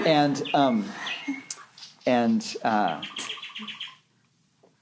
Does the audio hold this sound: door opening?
no